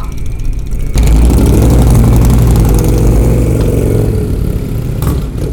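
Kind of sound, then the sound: vehicle, motorcycle engine idling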